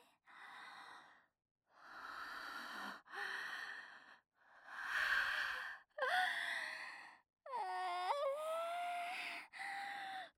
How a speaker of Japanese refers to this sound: お洋服の中にママの吐息も入れてあげるね。